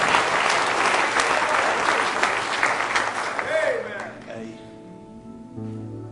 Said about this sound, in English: Give him a real big hand clap of praise tonight.